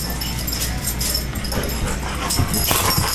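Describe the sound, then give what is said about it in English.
Dogs play and play-bite on a bed in a house bedroom, with soft whimpers, yips and scuffling bursts over a steady background hiss that runs through the whole moment. “And the dogs are up on the bed playing bite snow.”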